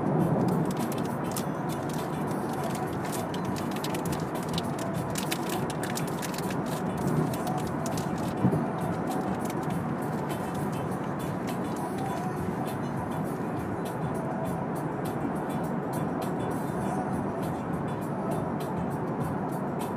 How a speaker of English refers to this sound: There's traffic.